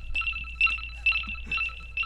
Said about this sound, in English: So it's beeping. We're hearing a beeping sound.